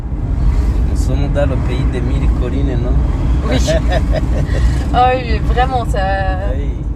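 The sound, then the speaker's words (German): A heavy, steady engine drone rumbles loud throughout as a car climbs a hill behind a truck just outside Kigali, Rwanda, after crossing the bridge over the Nyabarongo River, with voices talking over the noise. “Kaum sind wir aus Kigali raus und haben die Brücke über den sich braun und breit dahinschlängelnden Niabarongo-Fluss überquert, hängen wir an einer Steigung hinter einem LKW.”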